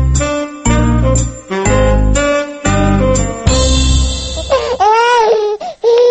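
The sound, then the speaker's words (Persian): A short bright musical jingle of repeated chords gives way to a baby crying loudly, with wavering, rising-and-falling wails in the last couple of seconds, in a scene of a radio play. “گوشایم کز شد آرام کو بچه گریان که دستا ما خراب کرد.”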